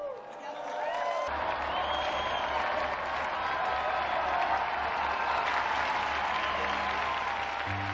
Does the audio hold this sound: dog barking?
no